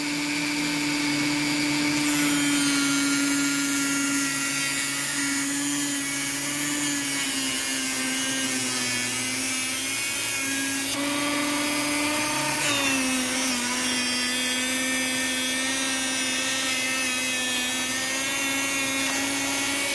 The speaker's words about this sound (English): Now, rather than build guides onto the table, I'm just going to use my square to guide the PC board straight through the saw.